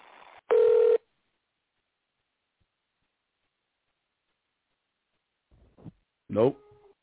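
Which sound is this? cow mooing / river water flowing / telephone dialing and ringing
telephone dialing and ringing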